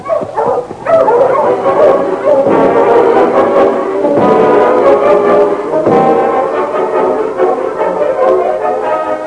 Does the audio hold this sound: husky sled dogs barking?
yes